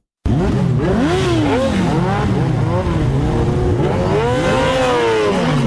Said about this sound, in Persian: صدای اگزاز موتورسایکل های عاشقان سرعت در ولایت هرات است. گروهی از موتورسایکل سواران سنگین وزن با سرعت بیش از 200 کیلومتر در ساعت شارهای هرات را در روزهای تمرین می پیمایند.